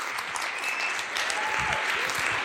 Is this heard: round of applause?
yes